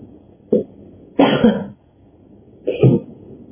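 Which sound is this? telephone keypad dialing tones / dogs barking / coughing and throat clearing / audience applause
coughing and throat clearing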